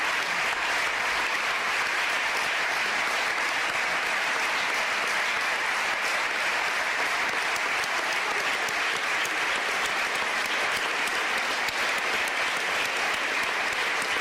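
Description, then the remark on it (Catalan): Sustained applause from a large assembly in the Catalan Parliament after a unanimous vote (129 in favour, none against) approving the legal reparation of victims of Francoism, a dense, steady clatter of many hands clapping at an even level without any voices standing out. “Darrere d'aquests aplaudiments hi va haver també, ho deixarem de fons, als Segadors, on hi havia molts familiars, sí, i moltes persones a la grada del Parlament acompanyant els diputats.”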